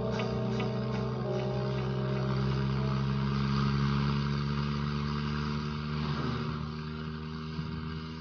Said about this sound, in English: There's a car behind us. We are not alone on the planet.